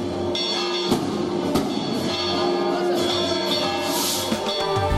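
Church bells swing and peal continuously, several overlapping strikes ringing out in a dense, clanging wash with lingering metallic tones, loud.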